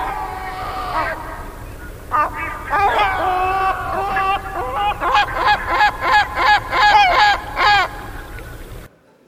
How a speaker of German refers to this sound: Und der Bass erstmal, der darf natürlich nicht fehlen. Also das ist nun in unserem Möwenchor die Mantelmöwe. Hören wir.